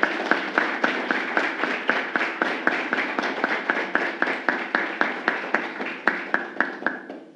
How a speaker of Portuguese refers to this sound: Pedimos uma calorosa salva de palmas.